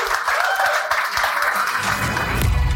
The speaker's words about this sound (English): Round of applause